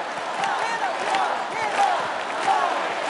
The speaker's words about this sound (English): Yeah, and then at the end of the song, the whole crowd starts chanting, love, love.